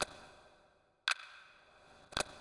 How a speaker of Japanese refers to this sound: 時計の音が気持ちいい。昔に戻っていくのが気持ちいい。カチカチカチカチ。時間が戻る。